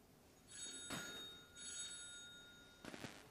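A telephone rings twice on the line, two steady electronic bursts about a second long with a pause between, heard as if through a handset at moderate volume with no talking; the call is ringing the caller's own work phone.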